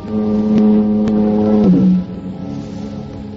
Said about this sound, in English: Cool, quiet, except for the monotonous moan of the foghorn down at the point near San Quentin Prison.